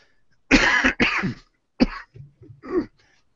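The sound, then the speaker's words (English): A person with a croaky voice gives two harsh, loud coughs in quick succession, followed by a shorter cough and a softer throat-clearing rasp, with no talking. “As you can hear, my voice here is quite croaky, and I keep coughing from time to time”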